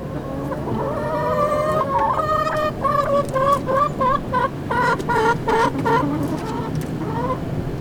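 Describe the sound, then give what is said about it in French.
Newly arrived hens at a school in Bangon cluck and squawk in a steady, busy chorus of short repeated calls, with a faint background murmur and no clear speech. “L'arrivée des poules, première réaction, première question.”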